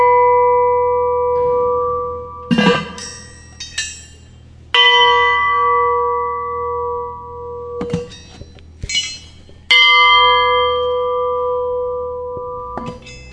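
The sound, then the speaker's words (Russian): An experimental metal bell, one of two bells of the same weight with different profiles (one elongated, one wine-glass shaped), is struck about five or six times. Each hit gives a bright clang that rings on in steady, sustained tones and slowly fades before the next strike, with no talking. “При ударе, может быть, у них нота одинаковая, но дальше звучание у них совсем другое идет.”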